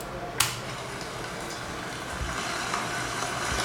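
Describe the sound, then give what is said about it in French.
Steady rain falls in a forest, a soft, even hiss spread across the whole clip, with one sharp tap early on and a faint low rumble underneath. “C'est la pluie ça. Mmh. Mais dans un forêt, donc t'as un peu d'ambiance autour.”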